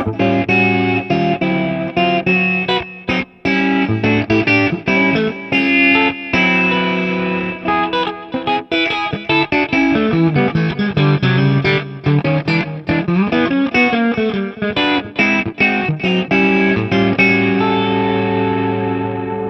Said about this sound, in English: So I kind of use it even like a chorus pedal. Sure. This way, you know. Yeah, so it's slow. It's real. Yeah, oh, it's real got chorus-y.